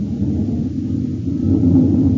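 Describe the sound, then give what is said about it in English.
The engine of a U.S. Air Force Northrop F-89D Scorpion jet fighter roars steadily and loudly as the test pilot prepares to take off, a deep rumbling drone that swells slightly toward the end with a faint whine rising out of it; no one speaks. “It's the roar of the Scorpion as he prepares to take it up.”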